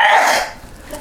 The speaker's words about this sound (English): Bless you.